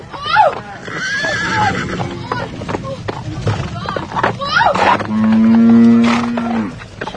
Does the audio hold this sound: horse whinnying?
yes